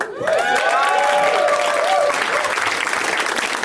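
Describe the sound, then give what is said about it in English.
A crowd claps and cheers steadily for several seconds, the applause dense and sustained with bright whoops rising over it before it begins to thin slightly toward the end. “That applause would build up to a much bigger crescendo if he actually walked out right then.”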